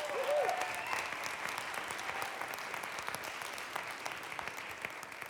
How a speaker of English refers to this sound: Ladies and gentlemen, please give a warm hand of a round of applause